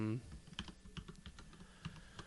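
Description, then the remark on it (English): Crisp clicks of someone typing on a computer keyboard, a quick irregular patter of keystrokes that runs steadily throughout, with a brief snippet of voice right at the start. “I started typing in Richard Dragon, and it immediately said Arrow.”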